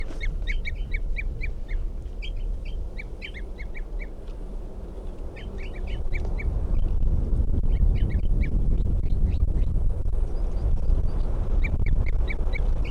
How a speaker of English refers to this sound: Tubes of the wild bird. And that's 305 who's tubing there. 305. And this is a wild bird.